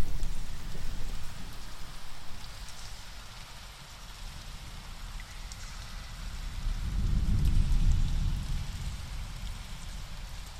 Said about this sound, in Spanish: A lo lejos, ves un túnel donde poder refugiarte. Entras en él. La lluvia fuera cae sin cesar.